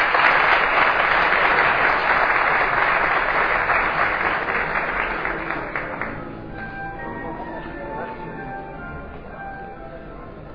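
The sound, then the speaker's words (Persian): Steady, dense audience applause welcoming Amir Mahnia to the stage, lasting about six seconds, then it thins out as a ringing, bell-like musical tone rises underneath and carries on with lighter scattered clapping. “با دستان شما به استقبال امیر مهنیا میرون. تشویق بفرمایید.”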